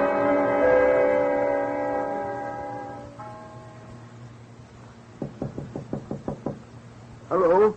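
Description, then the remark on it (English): A sustained musical tone fades out, then a quick run of about eight sharp, evenly spaced knocks on a door sounds, followed by a brief voice. “Somebody knocking?”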